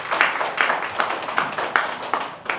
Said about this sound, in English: And that, I think, just give them a round of applause for just how like incredible that accomplishment is.